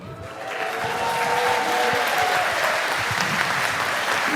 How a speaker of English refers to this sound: Okay, so this applause actually goes out to all of the chaos carriers, everyone that brought a postcard to someone else. So that was your applause as a thank you.